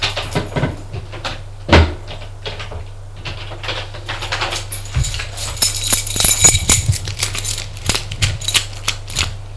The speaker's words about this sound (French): Arrivé à son étage, Monsieur Prudent ouvre la porte.